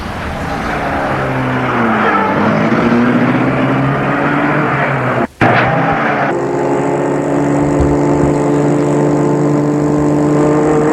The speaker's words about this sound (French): Elle le mène à sa voiture, qui est une voiture de sport rouge, le fait entrer et met la voiture en route.